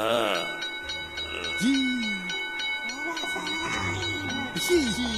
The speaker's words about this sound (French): Il y a une petite sonnette posée sur le bureau. Et... Je vais aller sonner!